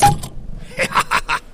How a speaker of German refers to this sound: Ich plopp mal die Vielanker Kirsch, oh, auf, ja? Das wird laut.